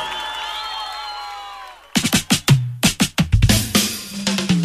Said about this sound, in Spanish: Las manos en el aire, un aplauso para muchísimas